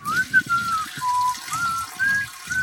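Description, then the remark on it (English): A woman urinates into a toilet in a bathroom, a steady stream of liquid splashing into the toilet water, rising and falling in uneven bursts, while someone whistles a wavering, high tune over it. “Look, I'm doing having a pee.”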